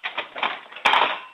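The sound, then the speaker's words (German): A 9-year-old girl in Krems, Lower Austria, takes all the metal forks out and drops them back into a kitchen drawer: a busy run of quick rattling clinks followed by a louder crash of cutlery landing together, fairly loud. “Und dann holst du alle von den Gabeln raus und lässt sie nochmal in die Lade reinplumpsen.”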